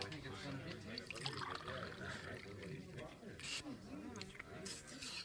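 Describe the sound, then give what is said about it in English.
Water is scooped up with soft splashes and trickles, followed by slurping as it is drunk, under continuous murmuring voices. “I'll try it first. I want to make sure the water's all right.”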